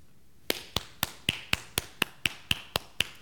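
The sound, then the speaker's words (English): A steady run of about a dozen sharp hand claps, evenly spaced at roughly four per second, each a crisp, bright smack with no voices around them. “What am I doing? Clapping.”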